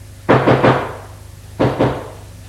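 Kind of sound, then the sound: impact, knocking on a door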